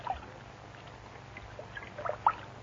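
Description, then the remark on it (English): Someone steps into a filled bathtub, stirring soft sloshing and small watery splashes over a low background hum, ending in one brief, sharper splash. No one speaks. “Now step in. I'll help you. Take care. The water may be hot, and the tub may be slippery.”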